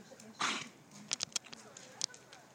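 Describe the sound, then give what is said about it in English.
A dog hacks and coughs from kennel cough, starting with one harsh, breathy burst and followed by a few short, sharp honking coughs, moderately loud. “Otherwise you'll start coughing like that. Yes, Rosie has kennel cough, which is not good.”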